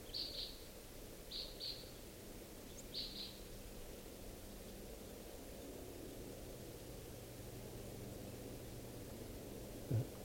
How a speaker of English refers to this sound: Oh, bird here.